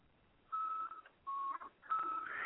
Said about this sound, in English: And this is one from 1975, just about. And it's a little tone generator. It makes tones kind of similar to touch tones. It makes the 2600 hertz noise, and it also makes these tones that sound like touch tones but aren't.